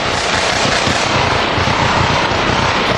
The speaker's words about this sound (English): In California, a fire, a final shootout with ex-cop accused killer Chris Dorner, then confirmation of Dorner's remains. Here's the gunfire, then LA's ABC 7 News.